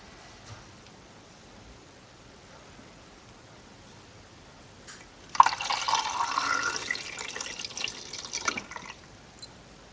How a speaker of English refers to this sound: I'm gonna take the rubber lid off, and I'm gonna pour in the developer and start my stopwatch as soon as it's all in.